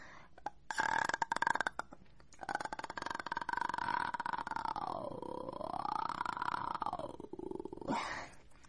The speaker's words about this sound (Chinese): 听气泡音哦。